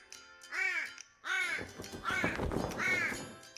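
raven cawing

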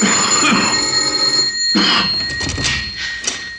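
doorbell ringing

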